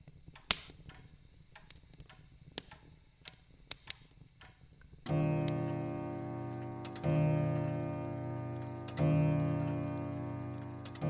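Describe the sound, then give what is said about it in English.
A clock ticks softly at a steady pace, then a deep, resonant chime rings out, struck three times in succession, each tone humming and lingering before the next. “The clock ticked, the coals stirred in the grate”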